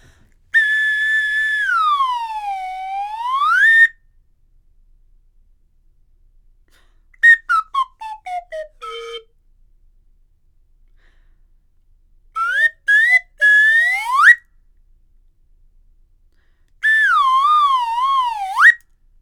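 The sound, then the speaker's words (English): Slide whistle glides in four bursts as a warm-up: a long swoop down and back up, a quick series of short descending toots, rising chirps, then a wavy up-and-down slide. No talking, clear. “It's going to be a slide whistle warm-up.”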